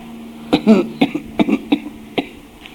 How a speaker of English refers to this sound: I can't cough properly because my... where I was hurt in my eight months.